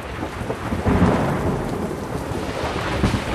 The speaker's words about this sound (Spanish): Aunque su intención era esa, ese mismo día comenzó una fuerte tormenta que duró varias semanas.